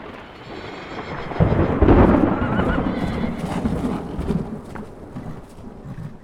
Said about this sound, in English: and then simply stood back up, walked to his horse, and rode swiftly out of town in the torrential rain, with thunder and lightning flashing and booming all around him.